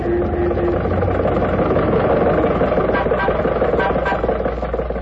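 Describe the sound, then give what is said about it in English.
The engine of Jack Benny's old Maxwell car, cruising along Hollywood Boulevard and holding up traffic, chugs and rattles continuously, a steady, loud, rumbling drone with a rough, uneven texture that holds for the whole stretch without pause. “And now, ladies and gentlemen, this being the height of the Christmas shopping season, let us leave the studio and journey two blocks north to Hollywood Boulevard, where we find Jack Benny's Maxwell cruising along and holding up traffic as usual.”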